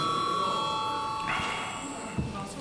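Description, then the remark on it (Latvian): A bell rings continuously for a few seconds in a parliament chamber, a steady, sustained metallic tone, with faint background murmur and a brief soft knock near the end. “Jā, lūdzu zvanu vēlreiz.”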